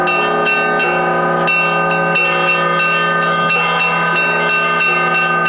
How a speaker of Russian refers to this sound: Ликующий пасхальный перезвон начинается крестный ход.